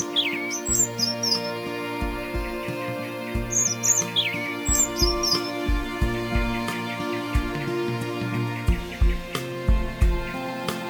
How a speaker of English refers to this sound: A woodpecker, off to make a nest in the carved-out trunk of a tree.